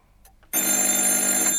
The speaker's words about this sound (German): Das Telefon klingelte.